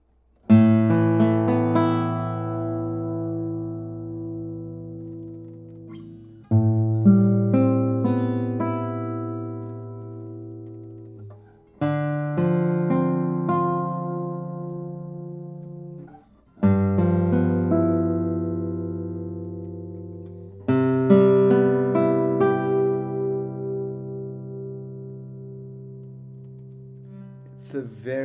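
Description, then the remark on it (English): A Japanese Masaki Sakurai Maestro RF classical guitar with a raised fingerboard, cedar top and Madagascar rosewood back and sides, played solo, with several phrases of plucked chords and melody notes that ring out with long, resonant sustain before each new phrase begins. “this guitar has a hugely raised fingerboard, as you can see. And it comes with a cedar top and Madagascar rosewood back and sides”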